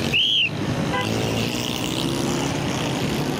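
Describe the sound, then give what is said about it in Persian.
Dense, steady roar of busy street traffic in Karachi, Pakistan, where a traffic police officer directs the traffic, with engines rumbling, a brief high-pitched squeal at the start and a short horn toot just after. “من باید ترافیک را تنظیم کنم. اما اینجا بسیار سر و صدا است.”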